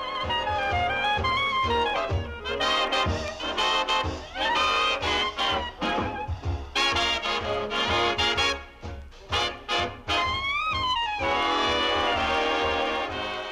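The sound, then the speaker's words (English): A copy of a 1938 radio broadcast of a swing band tune plays loudly and continuously, at a fairly slow tempo, with layered horn lines swelling and sliding over a steady rhythm section and sharp percussive accents. No one speaks over it. “What you're hearing is a copy of that 1938 broadcast that David Miller has in his collection.”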